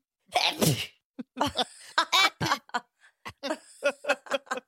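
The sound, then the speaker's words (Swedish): A loud sneeze bursts out near the start, followed by a rapid series of short, breathy bursts that sound like giggling or laughter. “Jag ska spela upp nysen igen.”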